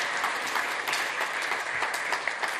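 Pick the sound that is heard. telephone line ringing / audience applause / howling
audience applause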